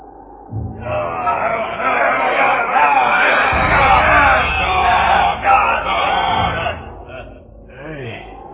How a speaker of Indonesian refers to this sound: Aku seperti mendengar pasukan dan puluhan manusia di tengah kebagian dalam. Ya, suara-suara teriakan itu seperti makin mendekat dan tanpa ujung. Ini tentu para prajurit Yasmita. Ya, suara-suara itu semakin mendekat.